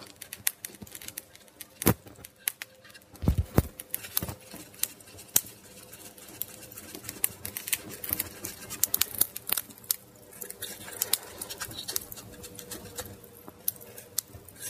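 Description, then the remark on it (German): A fire crackles steadily on a Saturday evening, with irregular sharp pops and snaps scattered over a soft hiss, some louder cracks standing out now and then. No one speaks. “Ah, knistert das Feuer schön.”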